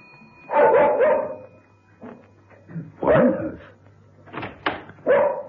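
A dog named Snicker barks loudly in several short bursts, some doubled, with pauses between them over a faint low hum, as a visitor arrives at the house. No one speaks.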